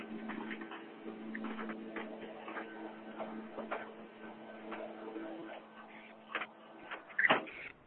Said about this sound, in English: Do you hear the lawnmower? Yes.